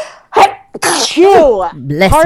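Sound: sneeze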